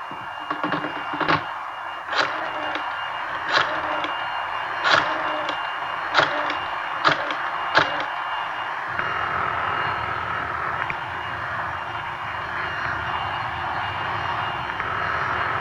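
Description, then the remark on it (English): A vacuum cleaner runs with a steady, whining mechanical drone, broken by a series of sharp clicks and knocks over the first half before settling into an even, continuous roar. “would you hold that vacuum for a minute, please? I can't hear.”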